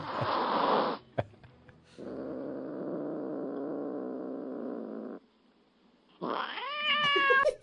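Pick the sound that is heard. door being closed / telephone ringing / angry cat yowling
angry cat yowling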